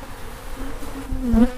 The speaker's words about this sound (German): Nein, das ist nicht ein ganzer Haufen Fliege, sondern Bienen.